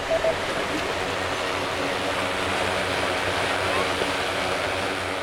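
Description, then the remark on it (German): A drone about the size of a pram, with many sensors and cameras mounted underneath, takes off at a forest fire exercise near Saarbrücken: a steady, loud, rushing whir of rotors with a low droning hum underneath, holding at an even level throughout without pauses. “Bei der Waldbrandübung in der Nähe von Saarbrücken startet jetzt eine Drohne.”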